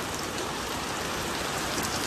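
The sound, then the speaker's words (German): Heavy rain pours down during a storm that has lasted for hours, a dense, steady hiss, a constant wash of drops without pauses or changes in intensity. No thunder rumbles and no voices are heard. “Oh, ich weiß nicht, ob man es hört, aber hier ist gerade das krasseste Wetter.”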